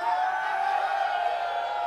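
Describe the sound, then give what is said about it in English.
An audience yells and cheers together in a steady, unbroken roar of many voices that holds at an even level for about two seconds without rising or breaking. “Maybe they'll hear you if you yell a little louder.”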